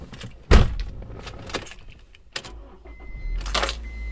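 Musician Levy's car pulls up, with an interview starting en route: a sharp door-like thump, a low engine rumble that swells toward the end, and light clinks like jangling keys, with no one speaking.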